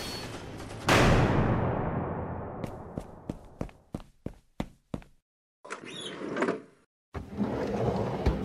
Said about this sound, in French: Mettez-vous sous le bureau, je vais fermer les stores. Je m'occupe de barricader la porte.